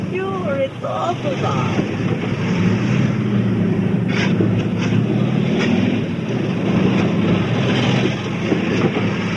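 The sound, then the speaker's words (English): A motorcycle policeman's motorcycle engine rumbles loudly and steadily, its low droning pitch climbing slightly as the bike pulls up, with a brief voice-like sound at the very start. “A motorcycle policeman arrives.”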